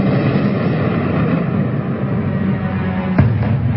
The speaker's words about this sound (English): That whining noise is the actual sound of one of the Russian drones overhead.